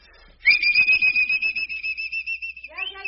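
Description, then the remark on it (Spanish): A loud, shrill mule-driver's whistle, blown into a person's ears, blasts as one long, piercing, steady high note for about two seconds, then breaks into a shorter wavering whistle, with a voice murmuring faintly underneath. “Su única medicina es pegarle un chiflido de arriero en las orejas de rato en rato.”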